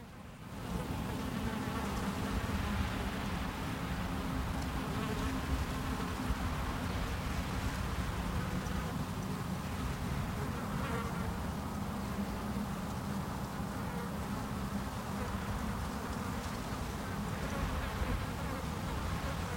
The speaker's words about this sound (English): A couple of flies buzz around in front of his craggy, lined face.